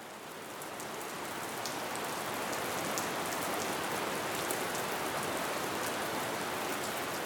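Heavy rain pours down steadily in October after many days of rain, a dense, continuous hiss with scattered sharper drop patters on top, fairly loud throughout, with no voices.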